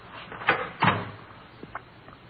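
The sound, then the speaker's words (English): A door opens and shuts: two quick wooden clunks close together, followed by a couple of softer latch clicks, with no voices. “It's right through that door.”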